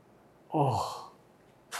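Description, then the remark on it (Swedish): A person imitates clearing their throat: one short, rough, gravelly burst that fades within half a second, followed by a brief breathy hiss. “Och så harklade så här...”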